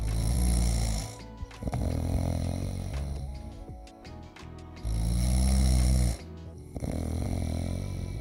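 Loud, rumbling snores repeat in a slow rhythm, each long inhaling snort followed by quieter, rattling breaths in between, with no talking.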